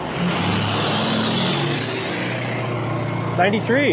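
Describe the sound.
A car passes by on the road with a broad whooshing rush of tire and engine noise, steady, measured at about 73 decibels on a decibel meter, while people talk over it toward the end.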